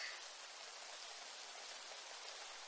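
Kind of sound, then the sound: nature, rain falling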